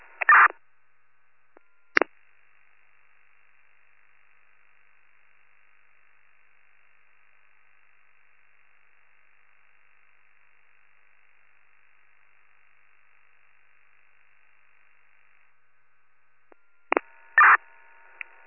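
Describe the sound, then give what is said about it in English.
A faint, steady high-pitched electronic alarm tone drones for roughly thirteen seconds, framed by brief crackling radio bursts at the beginning and end, with no voices. The alarm is reported as a motion alarm in room 117. “Where is that alarm coming from?”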